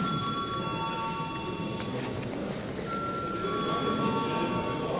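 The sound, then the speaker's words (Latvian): A parliament chamber's vote bell rings as deputies are called to vote on a proposal. It sounds as a steady, high electronic tone for several seconds, its pitch shifting slightly partway through, over a low background murmur and rustle. “Lūdzu zvanu.”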